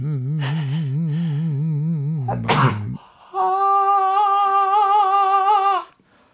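A wavering, moaning voice gives way to a sharp, explosive sneeze, followed by a long, high, strained cry of pain from cracked ribs. It is loud, and there is no speech.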